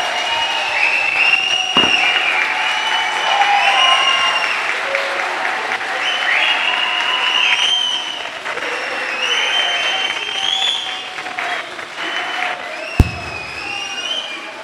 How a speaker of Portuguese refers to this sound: É para aplaudir de pé, então. Se é para aplaudir, é para aplaudir de pé.